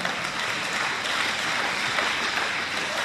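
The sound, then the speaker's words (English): Steady applause from a crowd fills the whole stretch, dense rapid clapping at an even level with no voices breaking through. “You're applauding Alcoholics Anonymous, and I know you know that.”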